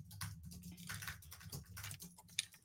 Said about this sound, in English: I like the ASMR of you typing. I was like, I could talk, but we could just listen to the keyboard because people pay good money for that ASMR of it all.